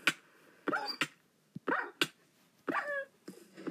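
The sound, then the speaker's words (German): A dog barks and yelps in a quick, uneven series of about seven sharp calls, fairly clear, with short pauses between them and no one talking. “Wir verlieren aber sowieso keine Herzen. Unser Hund.”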